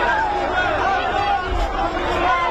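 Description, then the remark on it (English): A large crowd of Israelis watching an outdoor screen in Tel Aviv cheers and shouts together as three hostages held by Hamas are released, a steady, loud wall of overlapping voices with raised tones rising above the din for the whole moment. “Cheers from Israelis watching on an outdoor screen in Tel Aviv”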